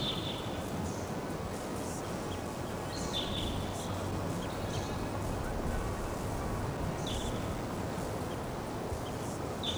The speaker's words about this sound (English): Hear the birds, but don't see them. Stump. I'm going to see the birds now. They're on the top of a Ponderosa pine in the middle of the canyon. Those wild birds, same pair.